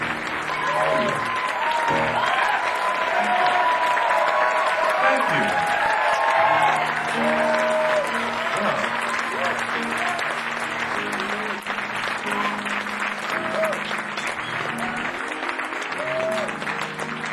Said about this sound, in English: For those of you who wonder what could those folk have been clapping about, those who know, those who don't know, those who... But it's something about music.